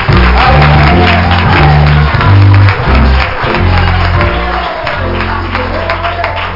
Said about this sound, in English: Well, give the Lord a great big hand clap of praise.